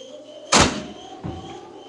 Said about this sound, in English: The car door slammed shut, and then I heard it.